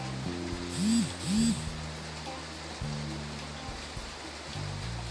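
rain falling

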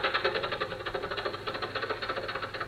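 old car engine running

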